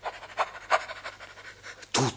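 A dog pants quickly and steadily, breathy huffs in a fast rhythm, then ends with a brief, louder voiced yelp or whine.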